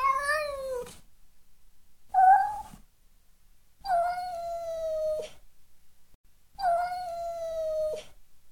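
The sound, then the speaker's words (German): A lion lying on the ground whimpers pitifully in four drawn-out, wavering cries, separated by short pauses. The whines are fairly loud, the last two long and sagging, with no voices around them. “Aber der Löwe legte sich auf den Boden und begann ganz jämmerlich zu jaulen.”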